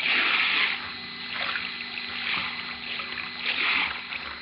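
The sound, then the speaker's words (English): Muffled water sloshes in slow, surging waves at the bottom of the sea, swelling and easing every second or so, with a dull rushing hiss like currents moving underwater, as the tide rolls a stone-weighted cedar chest along the sandy, pebbly bottom. No voices. “The powerful tide catches at the chest and rolls it over, then drags it along the sandy, pebbly bottom, turns it again and again and again, as in some grim, ironic game.”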